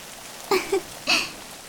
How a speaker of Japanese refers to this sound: まだ日があるとはいえ、一人でこんな雨の森を歩くのは辛いですから。